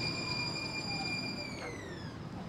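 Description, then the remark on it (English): A J line light rail train pulls in at Balboa Park Station, its high metallic whine of layered tones slowly sliding down in pitch over a steady rumble as it slows. “We have the J rolling up on us right now.”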